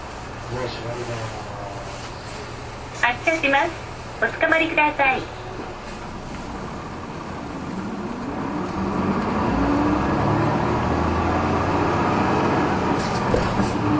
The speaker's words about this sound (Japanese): 毎度都営バスをご利用いただきありがとうございます。このバスは元八幡北砂7丁目大島駅経由亀戸駅行きでございます。次は高等運転免許試験場前へ、高等運転免許試験場前へ、南砂2丁目でございます。